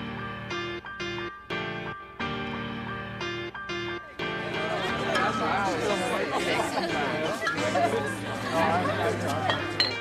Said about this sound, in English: That is legit the sound of me on a patio in Ontario.